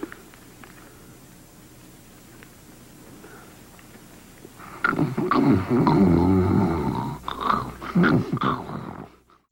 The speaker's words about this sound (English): You're snoring like I've never heard anybody snore.